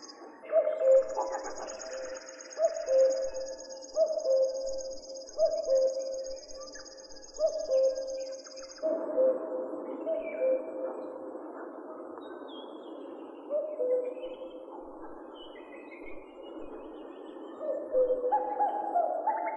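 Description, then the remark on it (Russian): Male common cuckoos call their repeated two-note "cuck-oo" again and again at a steady pace, over a background of other birdsong and a high insect-like trill. “Все время слышны кукушки. Иногда их можно услышать даже ночью. Это кукуют самцы.”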